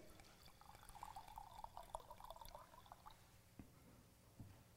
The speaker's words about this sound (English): And what they do is they go ahead and they pour one glass. I'm not going to drink it, but they're going to pour a glass and they're going to say a prayer.